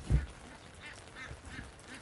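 ducks squawking

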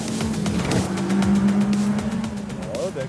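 car engine revving

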